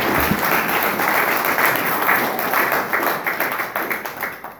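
A crowd applauds steadily with dense, overlapping claps, holding strong before thinning into more separate claps and fading toward the end.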